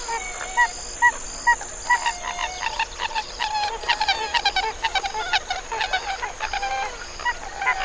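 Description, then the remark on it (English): A pied-billed grebe calls in a marsh, a series of hollow, gulping notes that speed up into a rhythmic cuckoo-like run, clear over a steady background hum. “A pied-billed grebe.”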